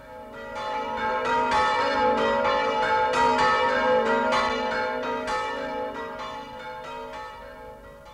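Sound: ringing bells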